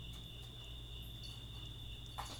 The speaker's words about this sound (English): Freaking crickets stole my thunder. Yeah. Huh. But they're, like, really going off right now. Yeah, they're loud. Wait, let's listen.